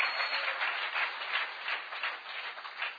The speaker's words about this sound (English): Come on. Give Jesus a hand clap. Воздайте славу Богу, да? Похлопайте ему.